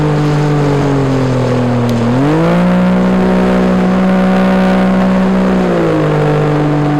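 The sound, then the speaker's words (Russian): A motorboat engine drones steadily and loudly on the Abakan River, one of three loaded boats travelling 280 kilometres upriver to a taiga homestead, its pitch climbing as the throttle opens, holding high, then easing back down near the end. No one speaks. “Погрузили все это в три лодки. Чтобы добраться до таежной заимки, нам предстояло преодолеть 280 километров по реке Абакан.”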